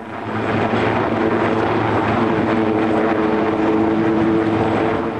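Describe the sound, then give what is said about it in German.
A frigate's ship-borne helicopter appears overhead and heads for a supply ship to set down soldiers on its helicopter deck; its rotor and engine form a loud, continuous roar with a low throbbing hum that swells in at the start and holds constant, with no voices. “Wie aus dem Nichts taucht ein Bordhubschrauber einer der Fregatten am Himmel auf, nimmt Kurs auf das Versorgungsschiff und setzt auf dessen Hubschrauberdeck in Sekundenschnelle eine Gruppe bedrohlich aussehender Soldaten ab.”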